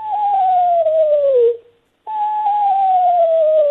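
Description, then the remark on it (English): A screech owl's whinny call: two long, clear whistled notes, each sliding slowly downward in pitch, separated by a short pause. Fairly loud and alone, with no voices. “It sounds like a whinny, and it's really neat.”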